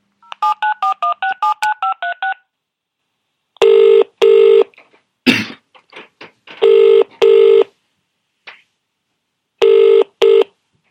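A quick run of about ten touch-tone dialing beeps, then a loud double-pulse ringing tone repeating three times over the phone line, with a brief click between rings and no talking.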